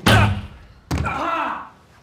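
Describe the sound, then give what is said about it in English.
A dog thuds hard into a closed glass door, a loud impact followed a moment later by a second bump that trails off into a brief ringing rattle. “Oh, is that glass door open? Some dogs would think it was closed, but not a silly dog.”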